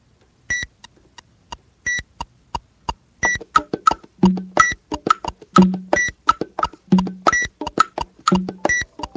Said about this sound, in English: Okay, that's the other thing you gotta avoid, is having your phone go off while you're recording. You have to put that on silent.